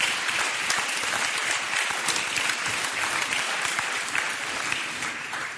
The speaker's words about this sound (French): Merci à notre, je vous demande de l'applaudir, le technicien qui nous a accordé sa soirée.